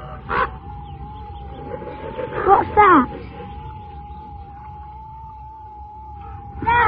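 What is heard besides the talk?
raven calling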